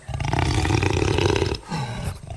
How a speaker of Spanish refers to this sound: De lo profundo del bosque escuchamos un gran rugido. Y de las sombras, despacio, salió un jaguar enorme.